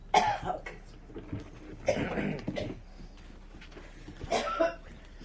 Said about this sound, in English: Okay. I get these coughing spells.